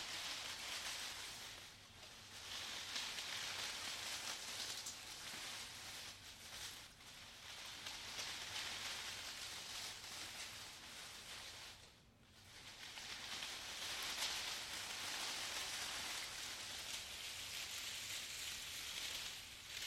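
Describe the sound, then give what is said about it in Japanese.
Continuous soft rustling and crinkling as hands rummage through a mass of paper finely shredded by a shredder, a dense, airy hiss with a brief lull midway and no voices. “ほら、触ってる音でなんとなくわかるんじゃない？”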